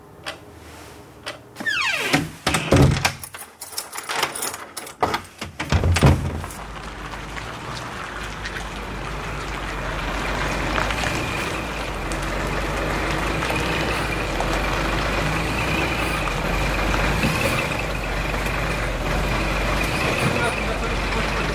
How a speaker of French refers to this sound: On est dans une remorque de camion, à l'arrière d'un camion qui est vide en fait, dans une remorque vide. Et ben, y a trois chauffeurs qui se font à manger avec un petit réchaud à gaz, juste ici.